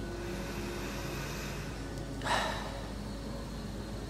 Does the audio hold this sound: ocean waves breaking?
no